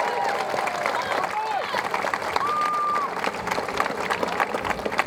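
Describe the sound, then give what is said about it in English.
A crowd at an event celebrating a ride claps steadily and loudly for the Ohio State University Spring Athletic Band, a dense wash of applause with a few sliding whistles and scattered cheers rising above it. “First of all, a big round of applause for the Ohio State University Spring Athletic Band.”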